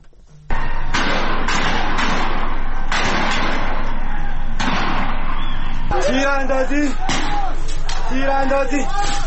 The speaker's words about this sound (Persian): تیر اندازی دارن تیر میزنن 23 اردیبهشت 1401 بروشهر شهرستان بروشهر دارن تیر میزنن.